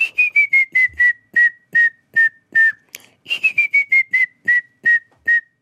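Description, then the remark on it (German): A person whistles an imitation of a grey-headed woodpecker call: two clear series of about ten pure notes each, falling gently in pitch and slowing toward the end, with no talking. “Ja, also beispielsweise nicht unser Grauspecht oder so. Okay, der geht wie?”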